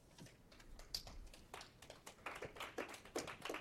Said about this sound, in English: You don't get as many claps as I do